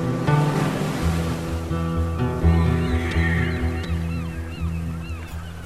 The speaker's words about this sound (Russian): Морские чайки кружат около пирса.